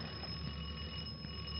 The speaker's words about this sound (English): Well, didn't you hear it? That's the doorbell. Someone's at the door.